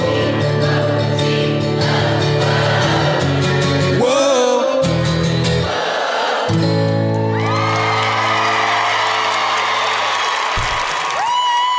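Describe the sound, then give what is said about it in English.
A live concert crowd cheers and whoops loudly over sustained music, with bursts of shouting and applause rising throughout, dense and continuous with no pauses. “Crowd was awesome.”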